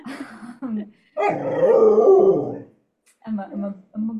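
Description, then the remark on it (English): A female puppy growls: two short rumbling grumbles, a longer drawn-out growl with a rough, whiny edge, then two more brief growls after a pause. “Those are growls of approval.”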